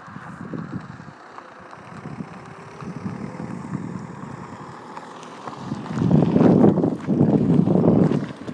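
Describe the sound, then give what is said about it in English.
A handful of cars pass by outdoors at night, their rumbling engine and road noise swelling louder toward the end, with steady wind buffeting the microphone throughout. “Sorry about that, it was a handful of cars going past making noise.”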